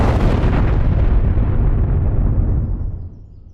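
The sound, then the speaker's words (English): A loud, deep explosion booms, its rumbling roar sustained for a few seconds before gradually fading as the higher crackle dies away, with no voices present. “Explosion.”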